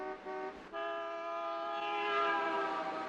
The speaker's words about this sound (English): You don't understand that I had this thing in for a tune-up yesterday, and they said they'd go over everything. Yeah, well, you better take it back, because the damn thing don't work. The only thing that does work is this lousy horn.